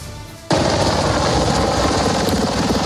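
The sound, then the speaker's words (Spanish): After a brief quieter moment, a group of 11 helicopters roars in abruptly at high speed and low altitude into the airspace of Caracas, very loud, a dense rapid rotor chop that stays steady to the end. “En medio del caos, un grupo de 11 helicópteros entra a gran velocidad y a baja altura en el espacio aéreo de Caracas.”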